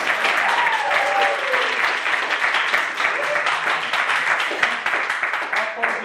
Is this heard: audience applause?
yes